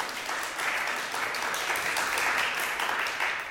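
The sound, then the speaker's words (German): A crowd applauds steadily for a few seconds, a dense patter of many hands clapping at moderate volume, somewhat scattered and uneven rather than a strong ovation, as an audience claps in answer to a question about whether they have farmers among their friends. “Da war ein bisschen unsicheres Klatschen, aber hat jetzt auch gerade jeder geklatscht?”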